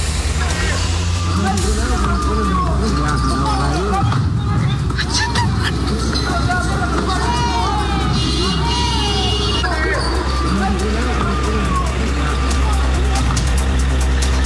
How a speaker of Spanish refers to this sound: Escuchamos parte de lo que fue este ambiente protagonizado por parte de estos encapuchados quienes bloquean el tránsito y posteriormente lanzan estos elementos combustibles.